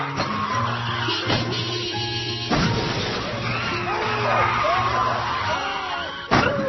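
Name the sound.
car skidding and crashing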